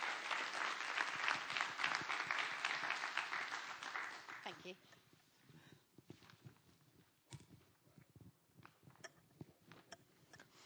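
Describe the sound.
A crowd welcomes the next speaker with dense, steady applause for about four seconds, then it thins to a few scattered claps and knocks while voices murmur underneath.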